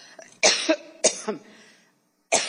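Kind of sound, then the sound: human body sound, coughing fit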